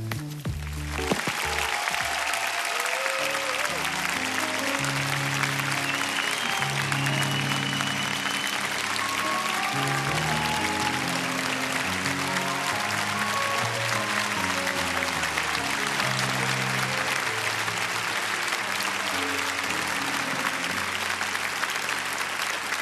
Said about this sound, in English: Let's give Jesus a great big round of applause, for he is the King of Kings and the Lord of Lords. Come on, chapel, let's do better than that.